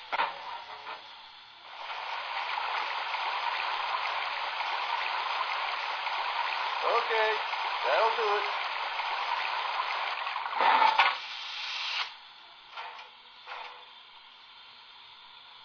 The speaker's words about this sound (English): Hey, it looks like we need to get pulling water before heading back down. All right, let's get that tank filled and get going. Hey, bring that spout over.